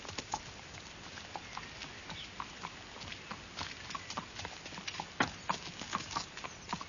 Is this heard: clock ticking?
no